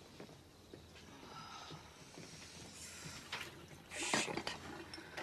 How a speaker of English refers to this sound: fills a glass with water.